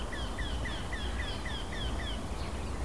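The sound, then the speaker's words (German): A small, bunting-sized bird with bark-coloured plumage sings a monotonous song: a rapid run of about eight harsh, quacking notes in a steady series, increasing in speed, over a constant low background rumble. “Oder besser gesagt, der Gesang. Dieses Quäken, ansteigend in der Geschwindigkeit.”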